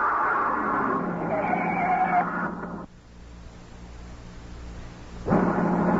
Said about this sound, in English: It wasn't a shot. A front tire had blown out. He drove the car off the road down an embankment where we couldn't be seen.